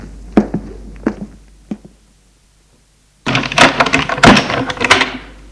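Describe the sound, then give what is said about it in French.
A few sharp thuds and clunks, then a short silence before another door is opened with a louder burst of rattling, scraping noise. No one speaks. “Il va aller en ouvrir une autre.”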